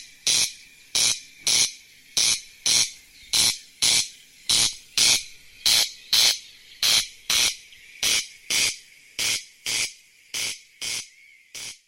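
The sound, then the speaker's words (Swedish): A corn crake calls alone: a long series of dry, harsh rasping notes, about twenty in all, repeated at a steady rhythm with no other sounds behind them. “Ja, det kanske var för mycket sagt, men att det var en kornknarr hade många gissat rätt på till ordet korn på lodrätt 9.”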